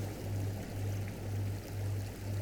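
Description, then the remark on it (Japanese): Ocean waves wash in a steady, hissing roar that gently swells and eases, with a low droning hum running underneath and no voices. “まだ波の音が聞こえていることにも気がつきます。”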